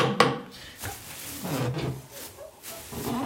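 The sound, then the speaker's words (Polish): A wooden creaking and rubbing sound repeats unevenly as a carolers' star is turned on its squeaky axle, moderately loud with no talking over it. “Troszkę skrzypi wasza gwiazda, tak ma być?”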